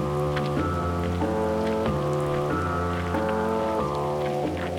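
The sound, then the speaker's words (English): Steady rain patters down continuously during a hike, a fine hiss dotted with drops, layered under sustained musical chords that shift every second or so. No one speaks. “We hiked in the rain for hours.”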